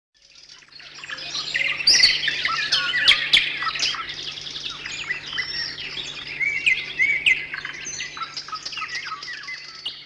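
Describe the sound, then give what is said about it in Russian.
A titmouse sings with bright, rapid chirps and twittering that run steadily for about ten seconds, clear, over a faint low hum with no voices. “Я буду начинать, а ты будешь договаривать песенку синички. Чирик-чик-чик.”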